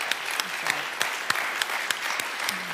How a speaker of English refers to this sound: No, you guys, give the Lord an applause for this morning. Here we go.